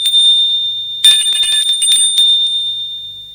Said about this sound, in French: Puis, vers la fin de la matinée, l'on sonne à la porte. Plusieurs fois.